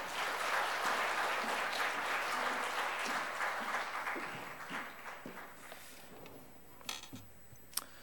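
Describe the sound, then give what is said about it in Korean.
A church audience applauds to welcome a guest pastor, with dense, sustained clapping that gradually thins out and fades, leaving a few scattered claps at the end. “우리 큰 박수를 한번 맞이하겠습니다.”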